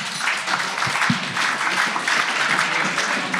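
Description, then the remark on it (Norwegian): Steady audience applause for the editors, many hands clapping together in a dense, crackling wash that holds at an even, fairly loud level throughout, with no voices on top. “En liten applaus til redaktørene.”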